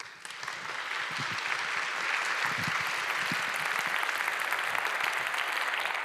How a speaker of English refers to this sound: Please give him a hand of applause.